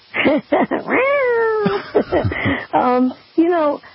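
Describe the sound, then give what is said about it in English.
A woman's voice imitates a cat during a call to Baldwin McCullough Radio on AM 970 from the Bronx, giving a drawn-out meow followed by a few shorter, rising mews, loud, with no other talk. “caused a woman to meow on Baldwin McCullough Radio.”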